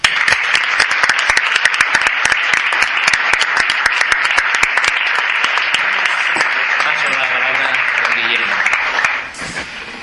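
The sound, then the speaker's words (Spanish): Loud, sustained audience applause congratulating a group of students at an instituto, with dense, crackling claps throughout, and a faint voice emerging near the end as the clapping begins to taper. “A ellos les felicitamos con un fuerte aplauso.”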